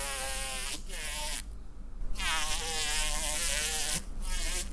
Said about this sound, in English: And they found that the sounds were fairly similar. You already know what hornets sound like.